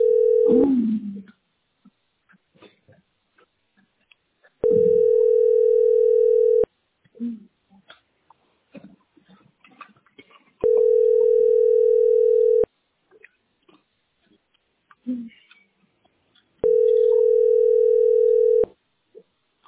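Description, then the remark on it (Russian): A telephone ringback tone repeats as a call to a settlement centre goes unanswered while the caller waits at queue position 6: four steady, mid-pitched, loud tones, each about two seconds long, separated by longer pauses holding faint scattered noises. “Они не берут даже после 6, телефон сбрасывается.”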